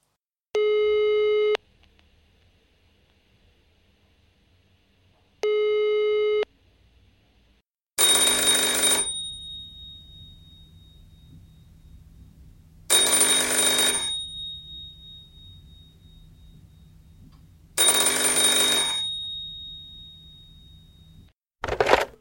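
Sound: telephone ringing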